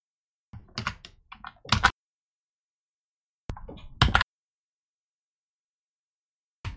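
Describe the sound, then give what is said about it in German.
Computer keyboard typing while copying a link in, in two short flurries of rapid key clicks separated by silence, followed by a single lone keystroke at the end. No voices. “An der Stelle brauche ich jetzt mal einen Finger von der Tastatur, weil ich würde euch gerne einen Link reinkopieren, dass ihr bei der Anwaltskanzlei euch auch diesen Fragenkatalog anschauen könnt, wenn ihr wollt.”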